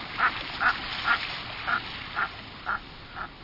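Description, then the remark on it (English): A common merganser gives a series of seven short, harsh croaking calls at a steady rhythm, moderately loud over a soft background hiss, with no voices. “This makes common mergansers and some other diving ducks among the last of the migrants to appear in the U.S. in late fall.”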